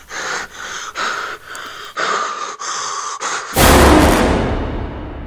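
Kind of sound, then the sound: human body sound, heavy breathing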